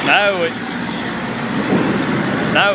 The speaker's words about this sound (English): Now, you say rural and tractor passes. How good can you get?